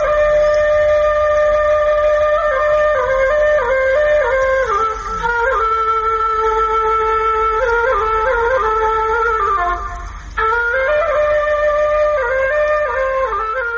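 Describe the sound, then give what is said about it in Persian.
A traditional Afghan tula flute plays alone, holding long, steady breathy notes that glide between pitches in a slow melody, with a brief pause for breath partway through. “شنیدن ساز توله بر شما تأثیر می گذارد.”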